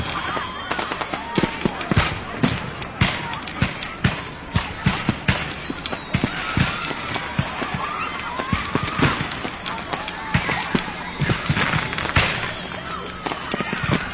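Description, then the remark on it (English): Rapid, irregular popping bursts crackle continuously like a string of small fireworks, sharp, with a busy background murmur underneath: popcorn popping used as a sound effect standing in for Fourth of July fireworks. “This crowd is watching fireworks, right? Take away the real effect, and they end up watching popcorn.”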